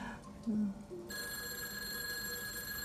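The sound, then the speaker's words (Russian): A telephone rings with a steady, bright electronic tone full of high overtones that starts abruptly after a second and holds without a break, preceded by a couple of brief low murmurs. “Ну, целый день звонки.”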